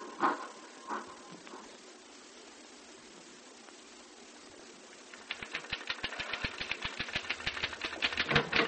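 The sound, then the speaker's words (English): After a few seconds of quiet hiss and faint noises, a typewriter starts clattering fast: a rapid, steady stream of sharp key strikes, fairly loud, with no one talking. “Say, you can really make that typewriter talk, can't you?”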